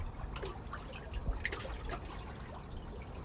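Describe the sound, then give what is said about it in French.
Gentle waves lapping and slapping softly against a wooden pontoon on Lake Annecy on an unusually mild evening, with small irregular splashes and trickles over a quiet, steady background. No voices. “Avec le clapotis des vagues.”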